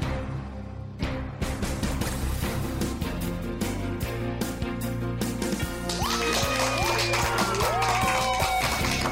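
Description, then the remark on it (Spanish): Audience applause and cheering swell over a steady musical backing, with dense clapping throughout and rising whistles joining in during the last few seconds. It stays loud and continuous, with no one speaking. “Y con esa energía positiva y esos aplausos damos inicio a este episodio número 159 del programa del podcast Te Invito a un Café.”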